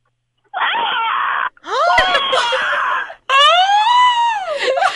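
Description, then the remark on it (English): A caller doing an animal impression imitates a really big bird with three loud, shrill screeching calls, each a sustained harmonic wail that bends in pitch, separated by brief pauses. “What animal can you do the best? A really big bird. Okay, go.”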